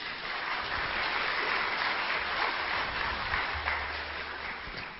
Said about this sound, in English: and express our hearty joy by giving a big clap, big hand.